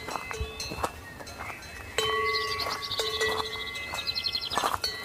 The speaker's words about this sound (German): Der Weg führt unter anderem auch über Almwiesen, wo wir auf mehrere Herden von Kühen treffen, die mitunter auch neugierig nahe an die Wanderer herankommen.